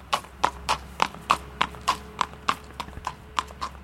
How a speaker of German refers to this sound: Der nächste Halt sind die Araberstallungen. Ein junger Mann in Reitermontur bringt eines der edlen Tiere in die Führmaschine.